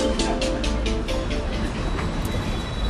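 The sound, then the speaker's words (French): A tram in Strasbourg rolls in to stop at Homme de Fer station with a steady low rumble and a quick series of rhythmic rail clicks, plus a faint high whine, with no voices. “Prochaine station, Homme de fer.”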